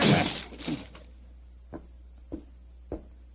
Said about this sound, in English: Open the door. Well, it's locked. Never mind that. Get your shoulders into it. Come on. Come on. Help me. Come on. One more.